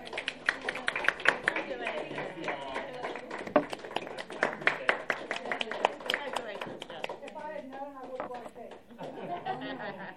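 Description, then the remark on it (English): A small group applauds a member of the Ethics Commission for their service, with dense, rapid claps mixed with chatter and light laughter; the clapping thins out near the end as voices take over. “And I just miss you terribly, and I want to applaud you for your service.”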